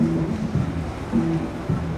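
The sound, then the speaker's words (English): A steady rushing wash of churning water as surf breaks in a wave pool in the San Joaquin Valley where people are surfing, with low droning tones pulsing underneath and no voices. “not expert surfers by any stretch, and they're running quite a different wave, and it looks like a different world than what we saw earlier.”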